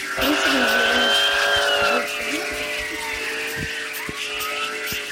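A siren wails with steady rising and falling tones over the low rumble of the moving vehicle it is mounted on, being driven with the siren switched on, loud throughout, with no one speaking.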